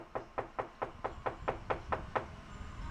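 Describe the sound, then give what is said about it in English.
Knocking on a front door of a house on a neighborhood block: a quick, steady series of about ten firm raps, then quiet room tone. No one speaks. “We walk to the end of the block, across a corner, and knock on another door.”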